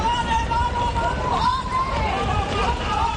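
A crowd of attendees runs into the San Diego Comic Con Málaga at the Palacio de Ferias on its opening day, with hurried running footsteps and a steady roar of excited chatter and shouts, loud and filling the space without pause.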